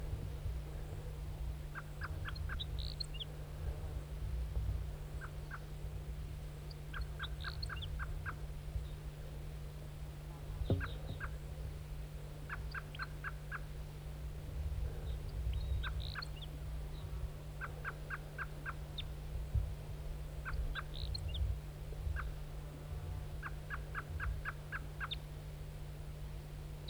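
bird, wild bird calling

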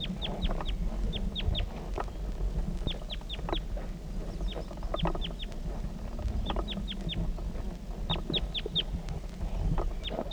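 bird, wild female bird calling

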